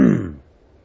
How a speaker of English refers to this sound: And the one clearing his throat, as you can hear in the back,